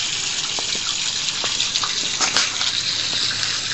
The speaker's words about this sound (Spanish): Este agua es como un bello surtidor, pues sale a presión, baña todo el alrededor de la fuente, que es un bonito jardín, bastante bien cuidado, donde hay plantas.